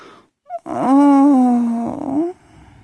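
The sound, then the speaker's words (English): A person lets out a single loud, drawn-out growl at climax, lasting under two seconds and strongly voiced, ending in a rougher upward push before stopping. “Oh, I love hearing that growl of yours when you come.”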